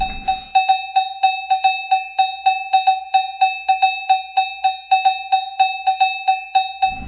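A cowbell is struck in a fast, steady rhythm, roughly four bright metallic clanks per second for about seven seconds, each with a ringing tone and a constant high overtone, with no voices.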